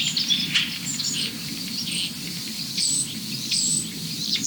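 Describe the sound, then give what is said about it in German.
Starlings that have just moved chatter excitedly in a dense, overlapping stream of high chirps and whistles, with a robin's bubbling, pearly song mixed in, all running continuously over a steady low background rumble. “Da haben die Starre sich gerade eben bewegt, aber die drehen gerade völlig durch.”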